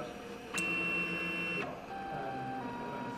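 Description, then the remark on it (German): A 3D printer whirs into action to print a cup from a downloaded design, a nozzle spreading liquid plastic onto a fixed print platform: a sharp click, then a steady tonal motor hum for about a second, followed by lower, shifting stepper-motor whines as it keeps running. “Der 3D-Drucker wird aktiv.”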